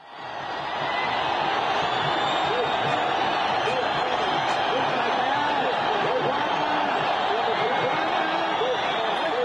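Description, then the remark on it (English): A large crowd of protesters in a square in Cairo, Egypt, roars in reaction to the announcement that Hosni Mubarak is stepping down as President. Many voices shout and cheer at once in a dense, sustained din that swells up within the first second and stays loud throughout. “And this is how the crowds reacted.”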